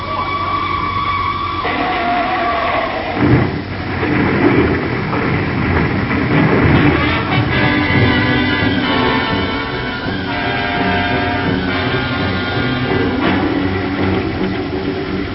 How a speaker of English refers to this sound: The gates are closed and the train is coming.